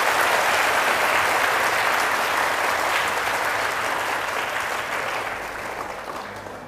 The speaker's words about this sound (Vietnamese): Nếu các bạn chấp nhận với lời khuyên của thầy là đến tham gia sinh hoạt chủ nhật tại các chùa, thì hãy cho thầy một tràng vỗ tay thật lớn để cảm kết.